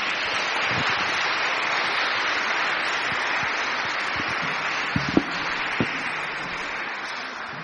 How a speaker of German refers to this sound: Ganz herzlichen Dank und nochmal einen Beifall für alle von der Schule.